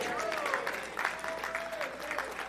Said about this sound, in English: Oh, go ahead and applaud.